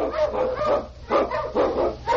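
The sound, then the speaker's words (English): Malamute sled dogs barking in The Challenge of the Yukon, a rapid run of overlapping yelps and bow-wows, loud, coming in quick repeated bursts with barely a pause between them. “One king on your Malamutes!”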